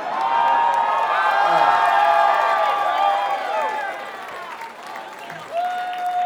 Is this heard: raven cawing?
no